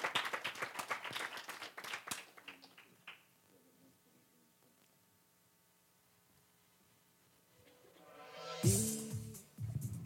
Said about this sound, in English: So we've asked some people to come up to the front of the room. Let's invite them up and give them a round of applause as they make their way to the front of the room.